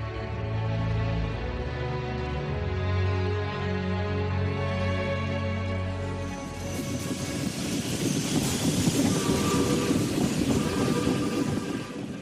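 A train runs along railway tracks with a steady, loud mechanical drone. Partway through, a rougher, broader rumble and rattle builds up as the cars roll past. No one speaks.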